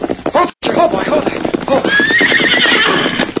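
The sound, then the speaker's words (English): A horse whinnies loudly, its neigh rising in a shrill, wavering call, while hooves clip-clop steadily underneath at a walking pace, with a brief break early on, as Dan rides into the Lone Ranger's camp in the evening. “When evening came, Dan rode into the Lone Ranger's camp to give his report.”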